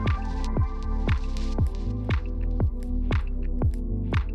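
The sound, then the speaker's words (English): Water drips and squelches in a creek in a steady rhythm, about twice a second, each a wet plop with a falling pitch, repeating evenly over a continuous low background with no talking. “As you can see, I am in this beautiful creek.”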